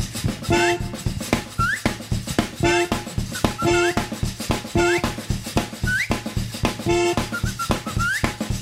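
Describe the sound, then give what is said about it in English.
A pet bird whistles in a house in short, repeated bursts, some rising chirps, about once a second, over a steady background hum and household noise. “You got a bird in the house? Get it whistle.”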